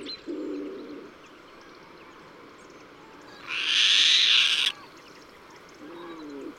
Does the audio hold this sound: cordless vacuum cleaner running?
no